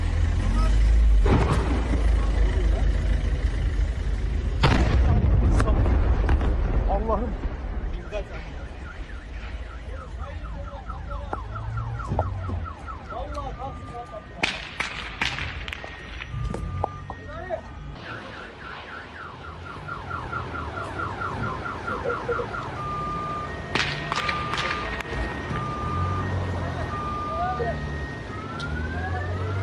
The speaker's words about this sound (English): Now, this next clip actually ends up capturing like an explosion and a bunch of shooting outside the factory.